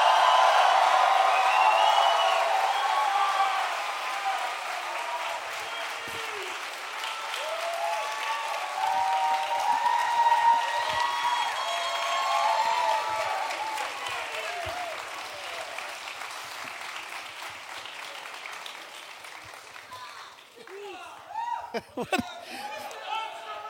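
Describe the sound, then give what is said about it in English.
A studio audience claps steadily with scattered whoops and shouted calls rising over the applause as guests Jim Norton, Aya Cash, Tom Brady and Morgan Spurlock are welcomed; the applause gradually thins out until a few voices remain near the end. “People are just yelling out random things.”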